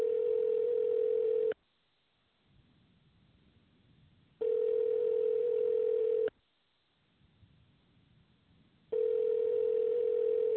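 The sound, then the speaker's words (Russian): A telephone ringback tone: a steady mid-pitched beep sounds in three long pulses separated by silent gaps of about three seconds, repeating evenly while the call goes unanswered. No one speaks. “Пока что абонент не отвечает.”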